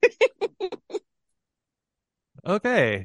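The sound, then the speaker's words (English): A voice imitates a platypus's purring growl, first as five quick rhythmic throaty pulses, then after a short pause as a longer, whiny rising-and-falling rasp, fairly loud. “The platypus sounds like a cat purring with the cat with mange purring.”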